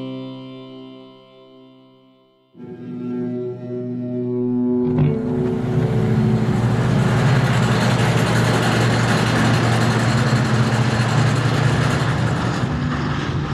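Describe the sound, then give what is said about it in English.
A steady mechanical hum of hydraulic drills and compressors used in fracking swells in stages into a loud, constant, rumbling industrial roar, droning on without pause and with no voices. “In some parts of the country right now, that sound, hydraulic drills and compressors used in fracking, is a constant presence.”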